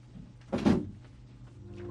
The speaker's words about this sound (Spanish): Adrián Lucero ha sentido como Chana ha cerrado la puerta de la habitación de Graciela, cual si le hubieran cerrado las puertas del corazón.